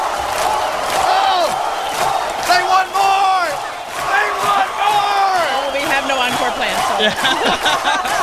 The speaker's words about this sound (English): Wow, Kennedy. Oh, wait, what is that the crowd is saying?